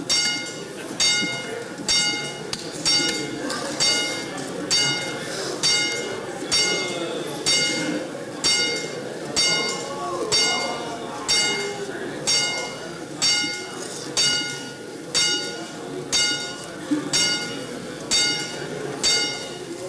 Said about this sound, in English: Ring the bell some more.